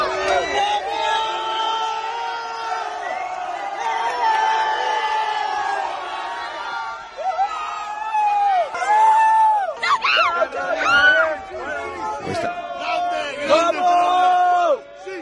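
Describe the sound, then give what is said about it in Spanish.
A noisy crowd of fans clamors as footballer Rodrigo leaves the Bernabéu in his car, high-fiving the people waiting for him; many voices overlap in shouts and calls, with shrill cries and whoops breaking out more sharply in the second half. “Se oye Guirigay, pero es que ha subido en la imagen chocando la mano con la gente que le esperaba.”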